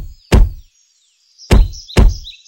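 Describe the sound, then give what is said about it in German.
Three heavy, thudding footstep stomps with a crunchy snap of cracking undergrowth, the first alone and the next two closer together, over a faint high chirping of birds in the background. “Und genau in diesem friedlichen Augenblick knackte und knirschte es im Unterholz. Laute, stampfende Schritte waren schon meterweit zu hören.”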